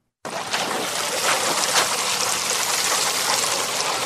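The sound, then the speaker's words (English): Water pours steadily onto a nursery bed of soil and plants as South Sudanese refugees and Ugandan hosts water it in the Nyumazi refugee settlement camp, Adjumani district, northern Uganda; a continuous splashing hiss that starts abruptly and holds at an even level, with no voices. “A group of South Sudanese refugees and the Ugandan hosts water a nursery bed in the Nyumazi refugee settlement camp in Uganda's northern district of Adjumani.”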